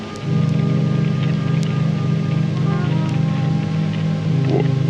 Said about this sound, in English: No, I went under the awning. It's still raining. Why is it still raining?